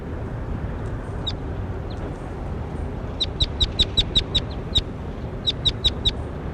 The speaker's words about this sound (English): That was bird 21, here he is again.